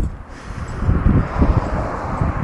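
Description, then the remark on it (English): Low, gusting rumble of wind buffeting the microphone during a walk along a street, swelling and fading in uneven bursts over a steady outdoor hiss, with no voices. “It's a little bit windy, so not sure how much of this you're hearing.”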